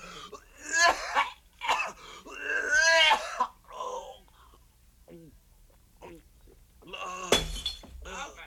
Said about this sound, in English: He knocked over the pitcher.